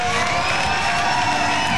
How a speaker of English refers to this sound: you folks may not believe this, but these people are really applauding without anybody holding up any signs.